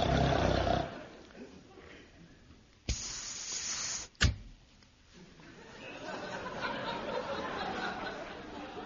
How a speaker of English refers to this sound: I've just put on this record of royal snoring. Oh, that's what money can do for you folks.